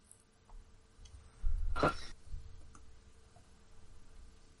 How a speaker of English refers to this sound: My tapping? Somebody's keyboard is coming through very loud.